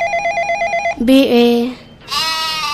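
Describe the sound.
A telephone bell rings in a rapid, trilling burst for about a second, loud, then a voice takes over with drawn-out, sing-song sounds.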